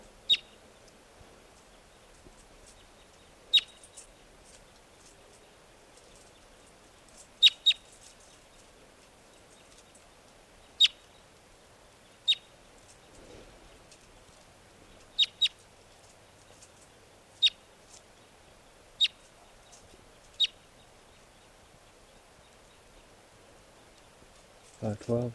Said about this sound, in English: the wild birds are still here, up in the trees near the net. This is one of them calling.